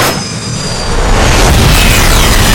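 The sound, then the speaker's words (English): A loud explosive blast from an arrow's explosive striking a 10-foot-long, 4,500-pound spy drone in the sky swells into a sustained, heavy low rumble with a thin high-pitched metallic whine running over it, growing stronger after the first second. No voices. “Then it lurched wildly, its control mechanisms shattered by the blast.”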